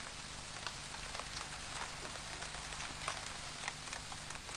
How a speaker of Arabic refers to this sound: إنها تمطر بغزارة. اللهم اجعله صيبا نافعا.